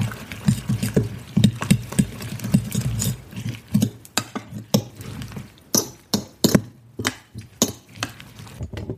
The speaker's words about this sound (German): Ganz schön viele Kräuter. Ich hoffe, ich habe nicht zu viel gemacht. Aber ich denke, das sollte passen. Dann nochmal verquirlen, dass sich das alles gut vermischt.